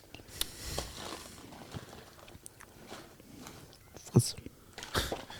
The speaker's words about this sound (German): Hast du die Nüsse gleich schon auf? Denk mal, wir brauchen noch genug zum Kauen gleich. Die sind gleich leer.